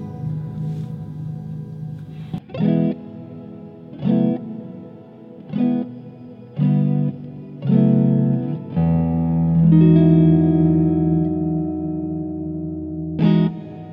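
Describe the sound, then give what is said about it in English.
An electric guitar through an effects pedal plays a series of swelling notes with a reverse reverb, each blooming up and cutting off, then a long sustained washy chord. No one talks. “So we're on the reverse feature now. I don't know if I'm smart enough to operate this pedal.”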